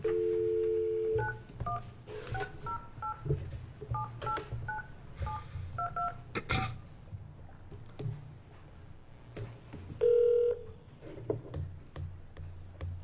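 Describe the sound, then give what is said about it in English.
A steady tone gives way to a quick series of telephone keypad dialing beeps, short two-pitch tones in irregular bursts, with another brief tone and clicks near the end over a low background hum: a call being placed to the La Crosse Police Department, Wisconsin, for a senate Judiciary Committee hearing. “All right, so I think that's queued up for going ahead and getting her on the phone.”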